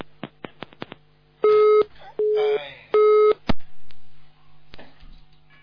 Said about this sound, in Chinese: 电话跳掉了。